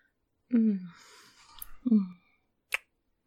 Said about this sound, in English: You like the sounds I make when I yawn?